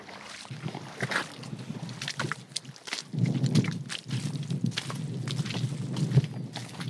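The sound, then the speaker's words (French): A steady northwest wind roars and buffets outdoors, with a deep rumble that strengthens midway, plus scattered light knocks and splashing-like noises; no one speaks. “un bon vent comme aujourd'hui, c'est un vent de nord-ouest.”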